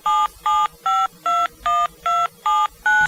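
A rapid sequence of eight telephone keypad tones, each a short, clear electronic beep of paired pitches, evenly spaced with brief gaps, loud with no talking.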